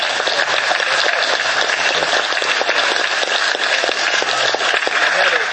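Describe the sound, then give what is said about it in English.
Steady, dense clapping fills the whole stretch, a bright crackle of many quick overlapping claps with no pauses, holding an even loudness from start to finish. “I want to give a good clap on that.”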